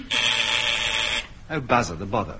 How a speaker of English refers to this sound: Oh, bother the buzzer. What's number one want this time?